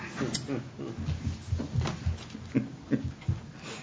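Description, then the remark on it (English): Clunks, knocks and soft rattles come in an irregular series as someone adjusts a new chair, with faint murmur underneath. “Fancy new chairs here. I'm trying to figure these out.”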